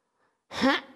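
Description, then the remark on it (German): A single short, raspy throat clearing, voiced for the story character Kugi, a ballpoint pen, before he starts to tell a story; it bursts out after a brief near-silence, loud and voiced with a gritty, breathy edge that tapers off quickly. “Der Kugi räuspert sich und dann fängt er an zu erzählen.”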